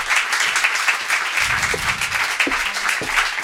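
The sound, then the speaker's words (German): Steady applause from a studio audience welcoming a guest, many hands clapping in a dense, continuous wash that stays loud throughout, with no talking over it. “einen kleinen, großen Applaus”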